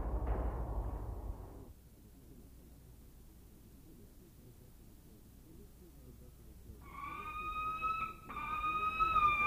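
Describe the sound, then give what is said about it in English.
Harris's hawk calls: two long, harsh, steady screeches with a rasping harmonic edge, one right after the other, following a short burst of low rumbling noise and a quiet stretch. “We're listening to the vocalizations of the Harris's hawk, a bird which is currently teetering on the edge of extinction.”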